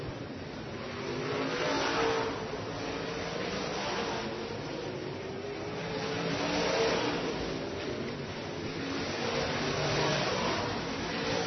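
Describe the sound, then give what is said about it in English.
Race car engines roar continuously on a speedway as the No. 5 and No. 7 cars battle for second position, swelling louder and fading in waves as cars rev and pass, with a steady dense mechanical drone and no voices. “car battle for that second position between the 5-up Johnny Collins and 7-up Fitzgerald.”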